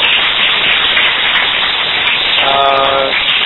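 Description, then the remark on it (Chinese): At the end of a meeting, an audience applauds the person who made the PowerPoint slides, dense overlapping clapping forming an even wash of noise that holds at the same level throughout, with a brief voice surfacing near the end. “我们给他一些掌声鼓励。”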